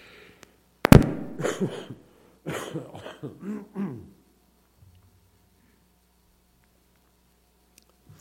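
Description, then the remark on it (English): A loud fit of coughing: one sharp hack, then two clusters of rough, raspy coughs in quick succession, followed by near silence with a faint low hum. “I'm going to have to turn this off for a minute and cough.”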